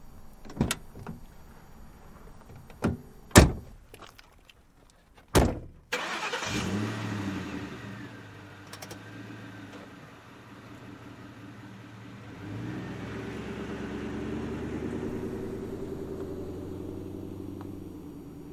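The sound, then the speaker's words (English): Several sharp car door thumps and clicks, then an engine cranks to life and idles before revving up and pulling away, the rumble swelling steadily. “We have to go now. Get in the car.”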